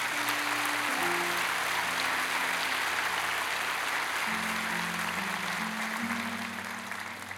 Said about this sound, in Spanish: ¿Cuánto le pueden dar un aplauso a Dios por eso?